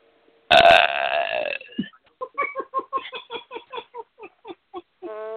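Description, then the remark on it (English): A loud belch bursts out, then drags on as a long string of rhythmic, croaking gulps that keep repeating for several seconds. “Give Fox News and Roger Ailes the insidious belch of the week.”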